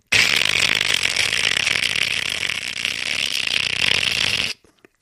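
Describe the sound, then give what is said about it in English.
A voice mimics a malfunctioning alarm clock with one loud, unbroken, rasping buzz that holds steady for about four and a half seconds before cutting off abruptly. “And I woke up because the clock was doing this.”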